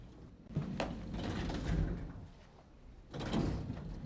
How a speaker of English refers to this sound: She presses the button for a lift and steps inside when the doors open.